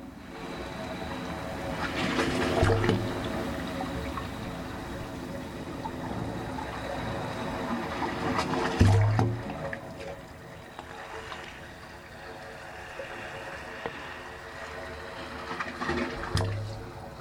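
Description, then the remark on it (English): Waves surge through the 25 pipes of the Wave Organ, an acoustic sculpture on a peninsula in San Francisco Bay, sloshing and rushing to produce sustained, hollow organ-like tones with steady horizontal harmonics, swelling in louder bursts roughly every few seconds as waves roll ashore. “As the waves roll ashore, the organ's 25 pipes create these musical tones.”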